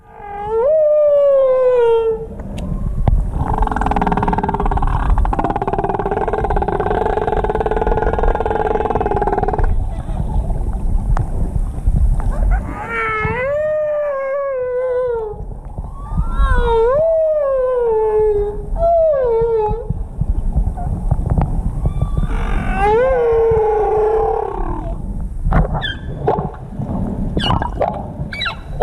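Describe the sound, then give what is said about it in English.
Humpback whale song: long, loud moaning and swooping cries, with a sustained droning stretch early on, then repeated rising and falling wails echoing through a continuous background rumble. “So that was a sperm whale echolocating, and now a humpback whale.”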